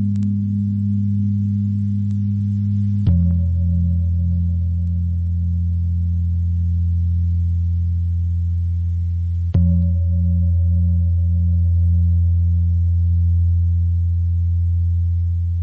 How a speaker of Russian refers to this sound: Прозвучала пара индонезийских гонгов из оркестра «Гамелан». Совершенно фантастический оркестр и совершенно фантастический вид музицирования для европейцев.